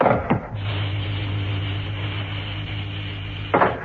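A mechanical door slides open with a steady motorized hum lasting a few seconds, bracketed by a sharp clunk at the start and another thud as it stops. No voices.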